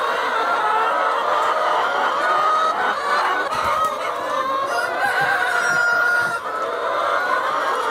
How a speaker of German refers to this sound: Und das waren jetzt sehr viele Hühner, oder?